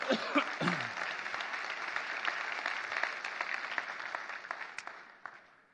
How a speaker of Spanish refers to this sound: Pero nos da una clave, un aplauso al Señor que se lo merece, su palabra.